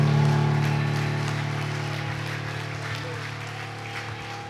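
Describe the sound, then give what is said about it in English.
An audience at a church service claps together in praise of God, a dense, steady patter that gradually fades, with a sustained low organ-like tone humming underneath. “Give God one more hand clap of praise today.”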